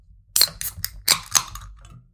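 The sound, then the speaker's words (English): Alcoholic drinks being popped open: a quick series of sharp, crackling snaps with bright hissy fizz, several pops bunched over about a second and a half, then a soft trailing rustle. No one speaks. “All right. Let's pop them. Pop them.”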